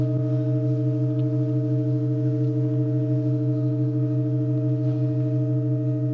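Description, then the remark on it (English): A sustained pipe organ drone, heard during a performance with hundreds of people listening in silence, holds several steady, low-pitched tones at an even, unchanging volume throughout, with no voices or other sounds breaking in. “I was surrounded by hundreds of people, no one making a sound, as we just listened to the unchanging drone.”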